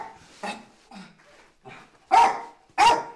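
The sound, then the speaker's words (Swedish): A 12-year-old dog barks several times in the stairwell of an apartment building over 20 storeys high in southwest Moscow, starting with softer, muffled yaps and ending with two loud, sharp barks. “Hunden Vip hörs redan ute i trapphuset i det över 20 våningar höga huset i sydvästra Moskva”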